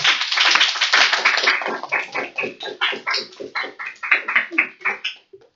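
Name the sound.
applause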